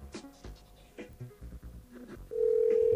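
A steady, loud telephone ringing tone on the line of an unanswered call cuts in near the end, following a couple of seconds of choppy, music-like sound with no talking.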